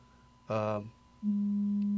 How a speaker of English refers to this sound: Somebody's phone is... Oh, that's what it is. I was wondering, what is that? It's my phone. Sorry, folks.